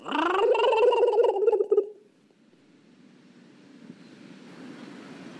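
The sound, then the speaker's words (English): A man's voice imitates a turkey with a loud, warbling, gargled gobble lasting about two seconds, the way he talked to turkeys to soothe them before slaughter at an Iowa processing plant, followed by a faint, steady low rumble of background noise. “talked to turkeys, cooing and whispering to soothe them in the moments just before they were slaughtered at an Iowa processing plant.”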